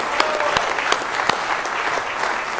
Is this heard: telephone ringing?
no